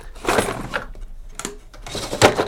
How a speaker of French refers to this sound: Alors voilà, des sons, des tas de sons encore quand on ouvre les tiroirs.